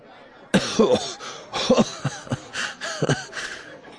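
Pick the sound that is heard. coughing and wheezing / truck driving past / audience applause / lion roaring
coughing and wheezing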